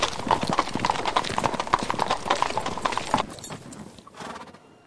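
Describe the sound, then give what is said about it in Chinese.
Steady clip-clop of horse hooves pulling a cart onto a main road, a brisk even rhythm of sharp knocks over a rattling wheel rumble, fading out in the last second as a horse briefly whinnies. “大克劳斯把车子赶上了大路以后说”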